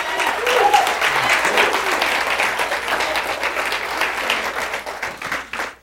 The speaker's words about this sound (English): Come on, somebody give God a great hand clap.